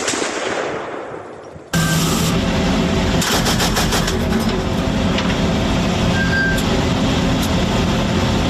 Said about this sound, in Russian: Неожиданно машина останавливается, стрелок дает очередь.